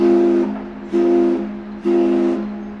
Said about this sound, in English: The whistle from the Sankaty steamer, which served Martha's Vineyard from 1911 until it was requisitioned for use in World War II.